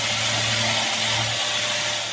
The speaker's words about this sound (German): An einer Stelle im Hafen gibt es Lärm. Ich schleife gerade hier das neue Holzdeck,